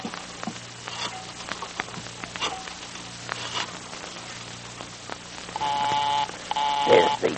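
signal or alarm, telephone being dialed

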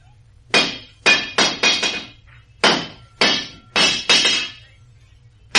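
tool, blacksmith hammering metal

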